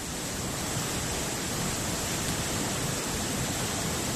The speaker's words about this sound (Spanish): Mientras tanto, aquí en España, la banda sonora de este viernes es la manta de agua, la lluvia incesante que cae en todo el país.